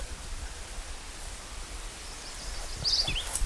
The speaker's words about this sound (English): Oh, let's get some of that sound. Can you hear those birds?